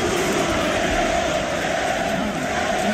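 A dense, steady roar of a large stadium crowd chanting Islamophobic chants together at the RCD Stadium in Cornellà-El Prat during a Spain–Egypt friendly, loud and continuous, with many voices blending into a broad wash of sound and no single speaker standing out.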